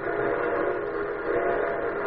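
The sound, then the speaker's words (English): An approaching Santa Fe steam train's whistle sounds in one long, steady blast at the North End station, with a rumbling rail undertone, fairly loud and sustained throughout, with no voices. “Hey, there comes the train. Yep, that's the old Santa Fe. She's whistling out at the North End station now.”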